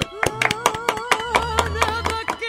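Steady, rhythmic applause with sharp claps landing about five times a second, fairly close, with voices going on underneath the clapping.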